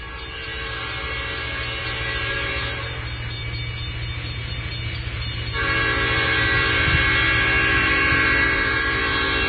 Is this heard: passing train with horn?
yes